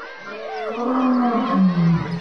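A lion in a zoo cage roars once in a long, sustained, loud call lasting about two seconds, rough and tonal, with no talking over it.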